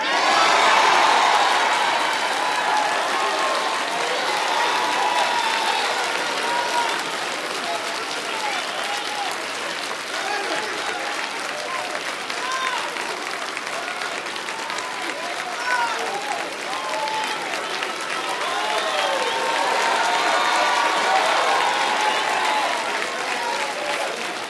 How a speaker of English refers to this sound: Hold up. We'll clap one more time.